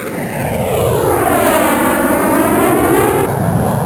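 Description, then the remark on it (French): A Swiss F/A-18 fighter jet roars past loudly, its broad engine rush sweeping with a shifting, phasing whoosh as it passes overhead for a few seconds, with no voices. “Les avions de chasse suisses, donc les FA-18, la vitesse maximale, c'est, on compte ça en Mach, donc c'est en vitesse du son.”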